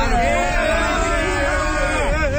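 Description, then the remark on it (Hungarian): A small, spontaneous crowd murmurs, many voices overlapping in a steady, indistinct babble with no single speaker standing out, holding an even loudness throughout. “Itt egy kisebb tömeg gyűlt össze, hogy engem mélyen ezenek.”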